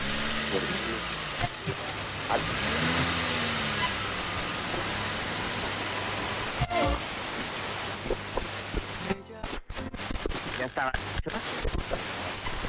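A car engine runs steadily, heard from inside the vehicle, a low hum under broad road-like noise, its pitch swelling and easing a couple of times, with a few sharp knocks and dropouts near the end.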